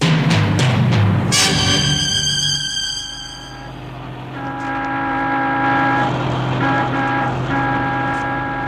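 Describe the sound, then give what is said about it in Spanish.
A speeding taxi's horn blares loud through city streets, with a few quick honks at first and then long sustained blasts over a low engine rumble as the driver makes other cars and pedestrians give way. Several horn tones overlap, and no one speaks. “Dejando de lado todos los reglamentos de tránsito, un taxímetro avanza a toda velocidad por las calles de la ciudad.”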